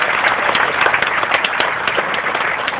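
An audience applauds steadily for Los Angeles County supervisor John Kanabe at the opening of a park in the Los Angeles County Park System, a dense crackle of many hands clapping at an even level for the whole stretch, with no voices standing out above it.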